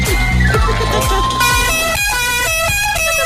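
Several car horns blare loudly in overlapping, sustained blasts at different pitches, like a noisy traffic jam, with a low rumbling undertone and no pause between honks.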